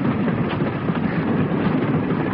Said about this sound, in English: Ah, I like watching trains go by. That's why I took a walk down here.